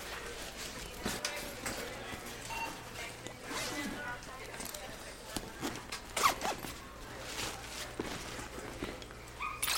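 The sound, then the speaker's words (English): A bag's zipper is pulled in several short, rasping bursts, with a steady low hum and faint background activity underneath. “Zip your bag for me, please.”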